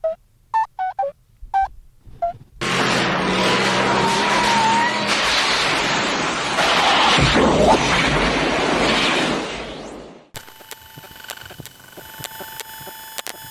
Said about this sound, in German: Was war denn das? Wir müssen irgendwie die Kontrolle über das Auto verloren haben.